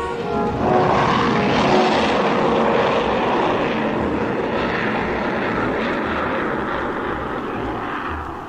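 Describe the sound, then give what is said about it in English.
A huge freighter aircraft roars loudly overhead, its deep engine drone steady for several seconds before easing slightly as it passes. No voices. “little more than an hour after Jet had spoken to Frank, the huge freighter passed overhead”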